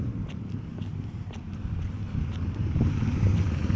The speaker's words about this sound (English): It's going to be a motorbike go by, it's going to be very loud, so just give me a second.